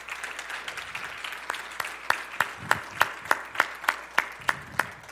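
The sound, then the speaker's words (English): An audience gives a clap of thanks to two people, steady crackling clapping that settles into a loose rhythmic beat of sharp, evenly spaced claps over the general patter, moderately loud and sustained. “Can we just give them a clap of thanks?”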